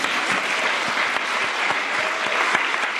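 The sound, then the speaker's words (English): An audience at the Brisbane Writers' Festival applauds novelist Louise Doughty, clapping steadily in a dense, even wash of applause that holds at the same loud level for the whole stretch without fading or swelling. “And for that, let's applaud her.”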